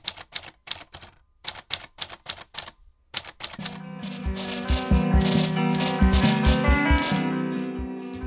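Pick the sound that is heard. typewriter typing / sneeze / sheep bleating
typewriter typing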